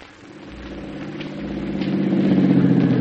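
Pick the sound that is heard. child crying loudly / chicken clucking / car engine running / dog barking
car engine running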